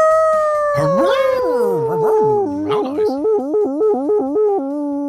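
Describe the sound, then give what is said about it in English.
A person imitates a dog howling, a long wavering howl that slides up and down in pitch, then breaks into a rapid series of short, pulsing yips. Loud. “Hey, man, that was a proper dog howl, man.”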